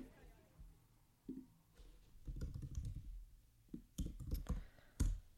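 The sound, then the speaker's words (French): Keys clatter on a computer keyboard in short, irregular bursts of clicking, with a few louder taps near the end and quiet pauses between the flurries, as someone types "deuil périnatal" (perinatal grief) into an internet search. “Alors voilà, je tape « deuil périnatal » sur Internet.”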